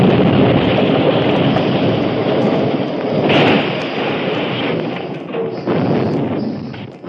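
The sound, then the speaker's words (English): Two locomotives colliding head-on: a loud, sustained roar of crashing metal and rumbling noise that fills about seven seconds, fading slightly toward the end, with no voices. “Even before he hit the ground, he was almost deafened by the tremendous crash as two locomotives met head-on.”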